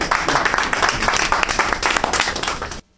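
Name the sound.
audience applause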